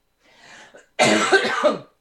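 A soft, breathy intake leads into one loud, harsh cough that rasps on for almost a second, forceful, with no talking around it, from a person during an energy-work session.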